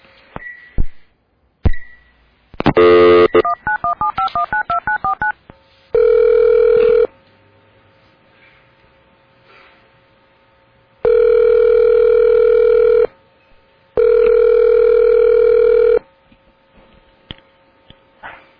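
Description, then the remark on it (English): A quick run of telephone dialing beeps as a dropped cell phone call is redialed, then a steady dial tone repeating in three long bursts separated by pauses, clear with no one speaking. “I'll call into you again.”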